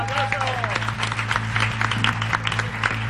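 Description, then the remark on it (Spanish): The audience attending the programme applauds steadily at its close, a dense wash of many hands clapping that holds at an even loudness for the full few seconds over a low, constant hum. “Daros un aplauso.”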